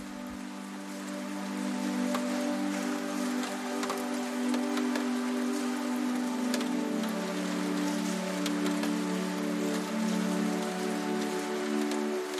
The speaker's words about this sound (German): Du sitzt weiter in deinem gemütlichen Sessel, während der Regen leise gegen das Fenster prasselt.